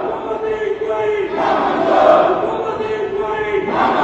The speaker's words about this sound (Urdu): Speaker نے انہیں بولنے کی اجازت نہیں دی تو ایم کے ایم کے ارکان نے اسپیکر کی نشست کے سامنے جمع ہو کر شور شرابہ اور احتجاج شروع کر دیا. اس موقع پر حکومتی انکوائری نامنظور کے نعرے لگائے گئے.